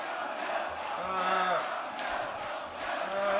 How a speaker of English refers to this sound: Hey, the old crowd's getting mad again. Anything else to say about that? Yeah, see, the crowd's getting really agitated.